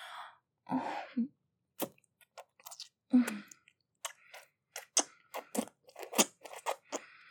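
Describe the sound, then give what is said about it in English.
Wet slurping and squelching noises come in irregular bursts of short smacks and clicks, with a few breathy sounds near the start and no talking. “Oh, the lovely slurps and wet socks.”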